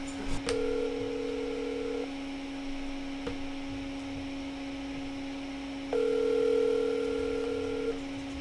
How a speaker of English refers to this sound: let us make this phone call first. All right, here we go.